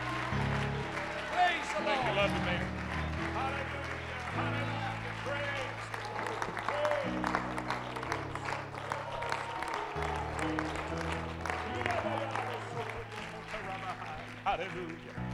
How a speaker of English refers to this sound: If you're thankful that you know the certainty of your God today, would you clap your hands and would you shout unto the Lord with a voice of triumph?